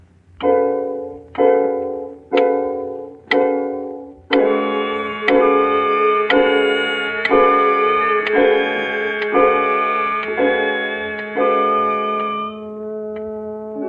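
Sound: clock ticking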